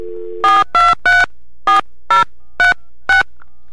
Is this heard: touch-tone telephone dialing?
yes